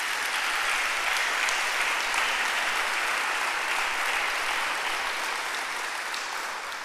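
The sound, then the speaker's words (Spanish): An audience claps hands steadily as an offering of applause to Christ during a sermon, sustained, dense applause, a continuous crackling wash of many overlapping claps at even loudness, with no voices. “¿Por qué no le damos una ofrenda de palmas a Cristo?”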